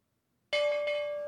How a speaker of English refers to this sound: There you go. Ring the bell.